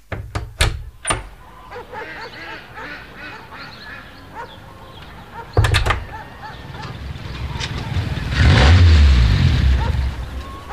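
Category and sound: vehicle, car arriving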